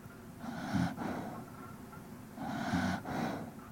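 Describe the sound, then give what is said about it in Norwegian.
Two slow, rumbling snores a couple of seconds apart, each a raspy inhale with a throaty rattle, fairly quiet with no talking. “Men du da kan få en siste snork fra … i 2024”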